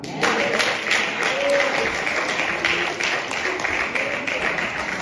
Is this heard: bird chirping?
no